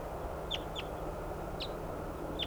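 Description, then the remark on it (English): Decoy ducks calling: four short, high-pitched calls, two in quick succession and then two spaced farther apart, rising clearly above a steady, loud background rush. “These are the decoys calling.”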